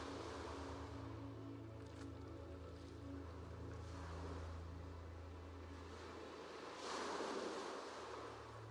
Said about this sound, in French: Au loin, le murmure des vagues.